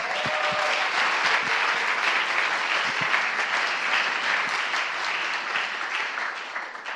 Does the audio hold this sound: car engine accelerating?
no